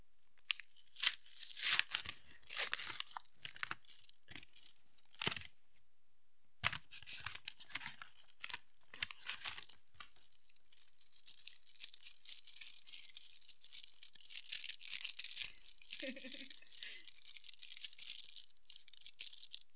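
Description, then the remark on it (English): Crisp tearing and crinkling of the paper wrapping of a Tony's Chocolonely milk chocolate bar with sea salt and caramel, followed by softer rustling of foil being peeled back, with sharp irregular bursts and a quieter stretch of steady crackle near the end. “The sound of the paper, the sound of the foil, the snap of the chocolate.”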